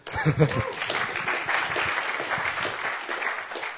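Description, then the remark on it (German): A short burst of applause from a small group at the start of a presentation, steady dense clapping for a few seconds with a faint voice or two mixed in at the start. “Ich finde, das hat auch einen kleinen Applaus verdient, oder?”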